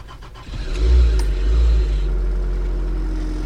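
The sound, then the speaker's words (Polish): An old diesel Żuk van engine, its glow plugs preheated by hand after the ignition key is turned, cranks briefly, catches and starts, then revs up before settling into a steady, rumbling idle. No one speaks. “Przekręcamy stacyjkę, musimy podgrzać świece żarowe i to nie jest nic z automatu.”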